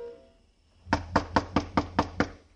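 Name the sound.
knocking on a door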